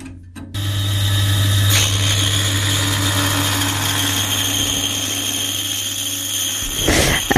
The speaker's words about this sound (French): Après avoir fait cette découpe à la scie à ruban